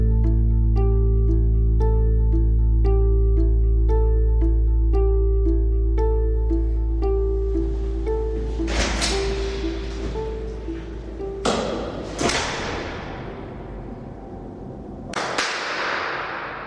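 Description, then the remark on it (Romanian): A steady, pulsing musical tone fades out, then several loud, sharp bangs ring out one at a time, each trailing a long echo through an empty university lecture hall like those of the Agrarian University, with no voices. “Cam așa sună o aulă universitară ca cele ale Universității Agrare, adică o aulă pustie.”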